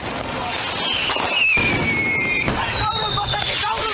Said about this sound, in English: They run around in the smoke, you hear the fireworks, like, they could get away with a lot.